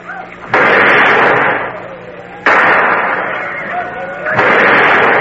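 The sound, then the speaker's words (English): Three loud gunshots fired by Hawkeye ring out about two seconds apart, each a sharp crack followed by a long, rumbling roar that lingers until the next shot. “Hawkeye, fire some shots now so that Magua does not suspect a trick.”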